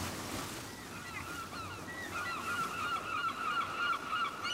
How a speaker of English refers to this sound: The seagulls cry. The seagulls cry down at Te Tio Bay.